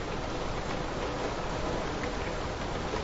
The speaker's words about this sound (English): It's raining.